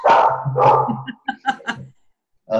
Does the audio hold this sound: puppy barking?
yes